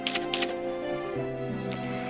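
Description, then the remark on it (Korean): A couple of quick shutter clicks from a small digital camera snap close together near the start, with a fainter click later, over a steady humming tonal background. “핸드백에서 조그만 디지털 카메라를 꺼내 호들갑스럽게 셔터를 누르는 앳된 처녀도 있었다.”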